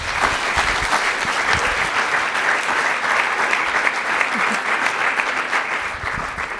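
Steady audience applause fills the whole stretch, a dense, even patter of many hands clapping at constant loudness without a break, with no voices rising above it.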